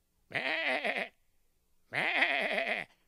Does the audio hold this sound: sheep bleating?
yes